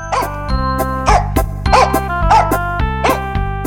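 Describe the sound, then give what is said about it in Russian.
A dog barks five times in a steady, evenly spaced rhythm, loud, over a continuous backdrop of sustained musical tones. “Вот села она, положила мешок на землю, и только было принялась петь, как вдруг выскочила из мешка хозяйская собака. Да на нее!”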